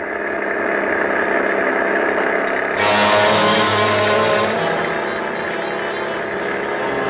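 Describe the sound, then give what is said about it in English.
A souped-up car engine runs steadily, then revs up sharply about three seconds in and keeps roaring at a higher, louder pitch. The sound is continuous and gritty, with no voices. “I've got her souped up to where she'll go 50.”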